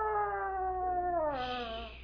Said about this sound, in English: Shh. I hear a coyote.